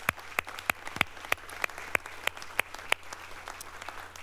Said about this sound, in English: So can we just kind of applaud God and say thank you, God, for that?